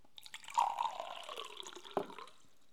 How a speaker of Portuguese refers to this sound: Ela enchia os jarros de água.